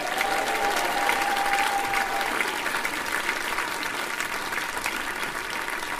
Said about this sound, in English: Go on, give a big cheer, it was brilliant.